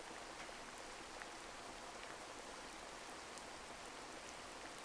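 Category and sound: nature, rain falling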